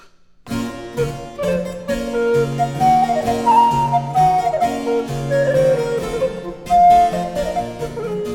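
A Handel sonata for recorder and harpsichord: a clear, breathy Baroque melody floats over steady, bright plucked chords and a moving bass line, played continuously at moderate loudness with no voices.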